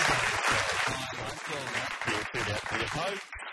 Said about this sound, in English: Round of applause